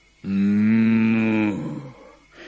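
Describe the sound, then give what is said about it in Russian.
A single long, loud cow moo, holding a steady low tone for over a second before trailing off into a softer, fading grunt. “Ехали-ехали, домой приехали, а в воротах корова стоит, их встречает, головой качает.”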